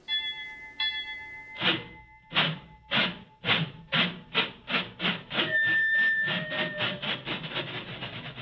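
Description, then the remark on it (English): A train imitation in a jazz song: a whistle-like chord sounds, then steady chugging bursts build in a driving rhythm, with high whistle tones returning over the chug. No voices. “And here again we get the sounds of the train worked into the music itself.”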